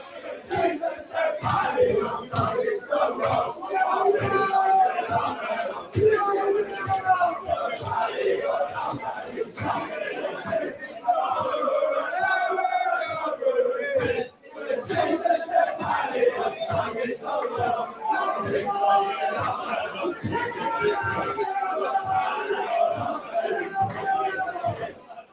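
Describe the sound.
A large crowd of Arsenal football fans sings an Arsenal-related Irish song in unison, loud and echoing, with a steady rhythmic swell and scattered shouts rising from the mass of voices throughout, including someone shouting "louder, louder".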